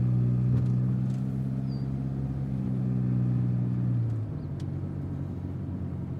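A steady, droning car engine hums for a few seconds, then its pitch drops and it quiets to a lower idle as the vehicle slows to a halt.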